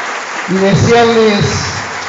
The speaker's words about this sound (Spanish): Así que un fuerte aplauso a todos los egresados y egresadas que están aquí hoy presentes.